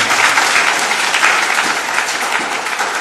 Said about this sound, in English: And lo and behold, yesterday God gave us rain. Amen. So just give God a hand of applause.